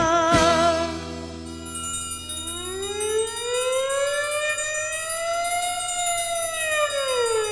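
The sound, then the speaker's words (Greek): A fire engine siren winds up after a short burst at the start, its wail rising slowly and holding loud and steady, with no voices over it. “πυροσβεστικές αντλίες ακούω. Τι συμβαίνει?”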